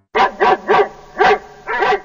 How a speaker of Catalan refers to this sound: Molt bé, era el gos.